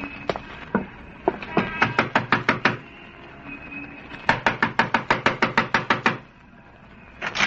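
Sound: knocking on a door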